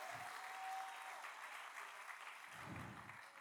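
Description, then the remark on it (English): A church audience claps together at a pastor's call, in sustained, dense applause, a steady wash of many hands with no pauses, fairly loud throughout and with no one speaking over it. “I want you to give a hand clap right now.”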